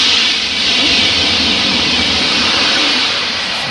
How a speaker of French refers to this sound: Un train, un TGV. Exactement.